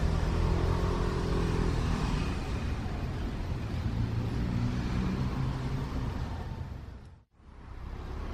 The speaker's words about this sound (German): So, und wir biegen gerade wieder auf die, man hört das Kopfsteinpflaster, auf die Vinohradská Straße ein, da wo der Rundfunk ist. Und sind also gleich wieder am Ziel unserer kurzen Motorradtaxireise.